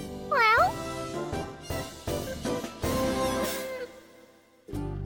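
A cat gives one short, bright, clear meow right at the start, followed by a few seconds of busy, overlapping sounds with no talking.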